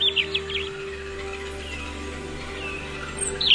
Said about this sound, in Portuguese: Passarinho cantou, Estelita levantou.